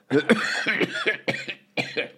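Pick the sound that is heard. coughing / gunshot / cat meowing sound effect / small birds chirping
coughing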